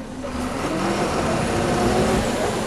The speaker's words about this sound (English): A garbage truck arrives and disgorges a load of dripping trash bags.